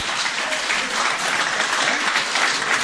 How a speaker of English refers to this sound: Right, that brings an end to our first section. Round of applause for the three Cairn men up here at the top.